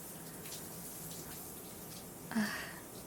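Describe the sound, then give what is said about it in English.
Hot water runs steadily into a bathtub, a continuous hissing rush filling the whole stretch, with a brief louder splash or slosh near the end. “Man, this hot water feels so good on my skin.”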